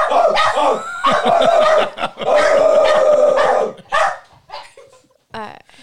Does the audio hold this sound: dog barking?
yes